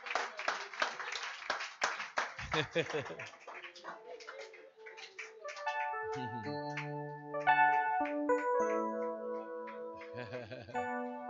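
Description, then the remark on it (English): A standing crowd claps rapidly for the Lord for a few seconds while a voice calls out over it, then the clapping fades as sustained organ-like chords take over. “Stand to your feet, put your hands together for the Lord. Oh, clap.”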